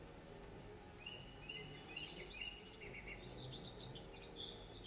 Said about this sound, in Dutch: Luister naar de vogels die voor jou zingen.